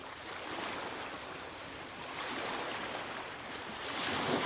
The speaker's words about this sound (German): Ah, das sind ja so Wellen. Das Meer ist unruhig.